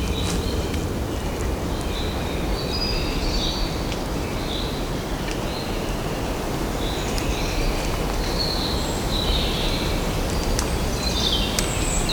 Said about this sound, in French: Il y a toujours l'éclat de ces oiseaux. Une légère brise entre les arbres et les habitants cachés de ces lieux. Restez cachés au regard des hommes, mais point de nos oreilles.